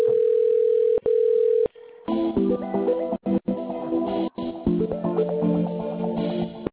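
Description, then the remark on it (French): Two steady telephone ringing tones sound over a phone line on a call to a social inquiry service, each lasting about a second, then give way to tinny, line-quality hold music that plays to the end. “Et à la fin, je ne sais pas si tu as le téléphone et tout.”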